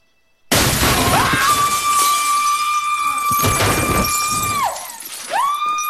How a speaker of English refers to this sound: Henry chokes Spencer and pushes him through the window.